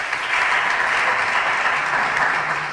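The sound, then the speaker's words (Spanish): Steady applause from an audience at a women's basketball event, welcoming Teresa Herrera, delegate of the Junta de Andalucía in Huelva, to the stage: a dense, continuous patter of many hands clapping at even loudness for a few seconds, with no voices over it. “Muchísimas gracias, bienvenida, fuerte aplauso.”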